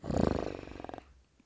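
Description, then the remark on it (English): A person gives a short, rough growl in imitation of a big cat, loud for about a second before it cuts off into quiet. “Come on. Give me a growl.”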